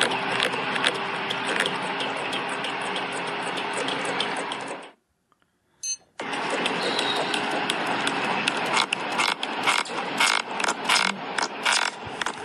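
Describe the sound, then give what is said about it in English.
A pufferfish, caught in a net and on a boat, inflating: dense, wet gulping and squishing with rubbery squeaks, cut by a brief pause midway, then resuming with rapid irregular pulses. No one speaks. “And then when you get to that rubbery sounding squeaky noise, that's when it was getting big.”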